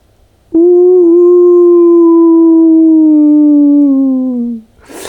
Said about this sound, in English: It was this sound. I will never forget it. It was wolves. I had heard about that they are in this area. First it was a lonely wolf somewhere far away.